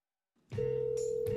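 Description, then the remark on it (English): A phone line rings before anyone answers: a steady electronic ringback tone starts after a brief pause and holds, with a couple of faint clicks over it and no voices. “Somebody sooner or later is going to pick up, and we'll hear something.”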